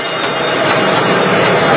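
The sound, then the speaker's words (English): A trolley car rumbles along the rails as it brakes, a loud, steady grinding roar of wheels and hissing noise with no voices, holding an even level for under two seconds. “Oh, I hope that trolley has good brakes.”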